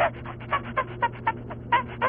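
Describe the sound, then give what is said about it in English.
A man does a chimpanzee imitation: a quick, steady run of breathy hoots, about eight short pulses in two seconds, each carrying a brief rising tone, with no talking. “You just went into a whole chimpanzee routine.”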